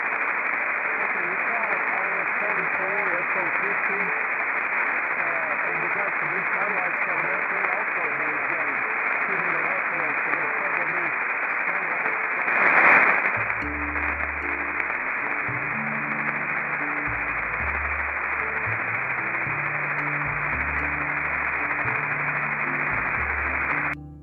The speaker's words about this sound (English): Well, I hope you've enjoyed listening to some of the linear satellites today.